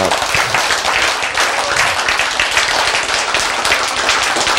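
Sustained audience applause, a dense, steady wash of many hands clapping at once, loud and even throughout with no voices standing out.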